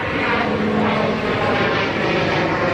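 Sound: airplane flying overhead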